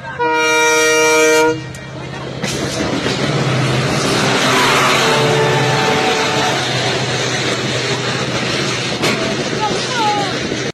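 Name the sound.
train passing with horn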